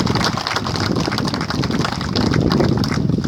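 A crowd applauds San Cayetano and the patron saints, many hands clapping steadily for a few seconds in a dense, crackling wash that stays loud and even throughout, with no voices.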